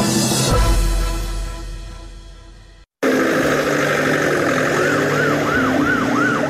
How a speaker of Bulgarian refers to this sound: Овој звук на амбулантното возило, кое често се слуша низ скопските улици, подсетува дека многу луѓе секојдневно се борат за здив и живот.